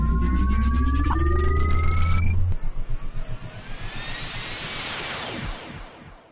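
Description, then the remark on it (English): A sci-fi spaceship's hyperspace parallax engines engage: rising electronic tones over a heavy low drone, then a throbbing pulse and a loud sweeping whoosh that surges and fades away. “Jessica set our course, gave the word, and I engaged the hyperspace parallax engines.”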